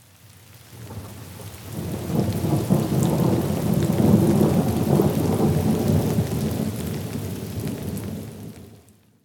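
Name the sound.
thunderstorm with heavy rain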